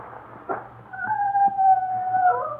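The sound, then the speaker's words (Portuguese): A single drawn-out, wavering cry from a mortally wounded dog, like a pained whine or yelp stretched over about a second, follows a short dull thump after it is shot with a pistol by the roadside, with a low steady hum underneath. “Levou a mão à cinta e, empunhando a sua garrucha, estendeu o pobre cão mortalmente ferido à beira do caminho.”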